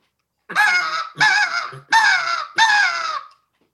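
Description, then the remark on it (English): Four loud, raspy caws blown on a crow call used as a hunting locator call, in quick succession, each a harsh drawn-out blast with short gaps between, alone with no talking. “As the day progresses, I carry the crow call with me.”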